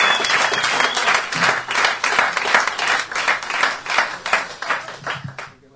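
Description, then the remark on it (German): An audience at a Christian weekend gathering claps steadily and loudly throughout in applause for God, a dense wash of many hands applauding together that fades out at the very end. “Nochmal Applaus für unseren Chef im Himmel.”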